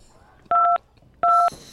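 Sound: telephone keypad beeps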